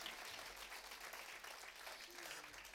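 An audience claps their hands for the Lord together in a sustained burst of applause, dense and steady, filling the room with crackling hand claps for the full few seconds.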